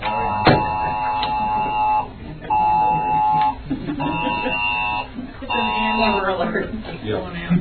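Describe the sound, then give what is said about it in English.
Several phones blare an Amber Alert emergency tone at once during a city council meeting in Shore Acres, a harsh buzzing, harmonic-rich signal that pulses in repeated long bursts while people murmur and talk underneath. “It's an Amber Alert. If you would, everybody please check your phones so they don't go off in the council meeting anymore.”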